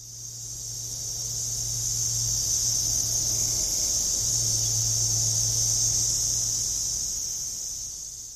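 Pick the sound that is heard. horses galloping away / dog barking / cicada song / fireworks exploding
cicada song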